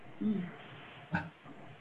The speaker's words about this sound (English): Sound like it made someone's dog start barking in the background.